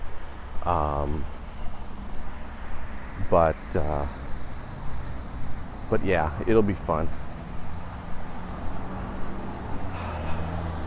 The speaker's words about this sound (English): Wow. 3 cars into the subdivision, 2 cars out. It just suddenly got busy around here.